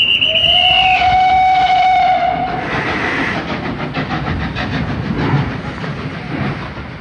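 A train rumbles along the tracks with a steady rolling clatter, opening with a long, drawn-out horn blast that fades as the wheels keep churning.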